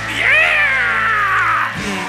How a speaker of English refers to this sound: Yeah! Yeah! Give me the screech.